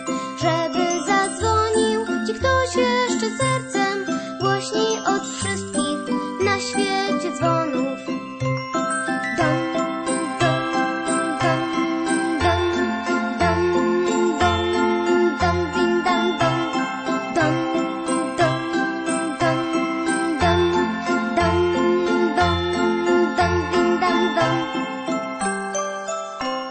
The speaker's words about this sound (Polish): I budzić echo tym dzwonów koncertem, żeby zaniosło go do wszystkich domów.